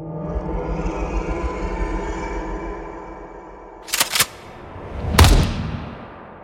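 Low rumbling ambience gives way to two quick sharp cracks, then a single loud gunshot in an attic that rings out and fades with a reverberant tail.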